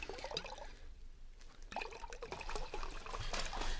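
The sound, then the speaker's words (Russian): Liquid pours steadily into a mug for a few seconds, a bubbling gurgle with the pitch shifting as it fills. No one speaks. “Вот сейчас мы с вами и отведаем по кружечке.”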